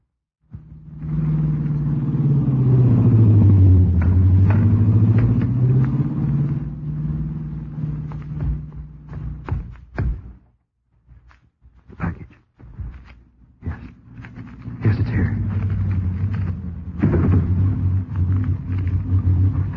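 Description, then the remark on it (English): A car drives past slowly, feigning motor trouble: its engine's low drone dips and rises, then cuts out into a few sputtering pops and brief silence before the motor labors back up again. “Then moments later, Nancy would drive past slowly, feigning motor trouble.”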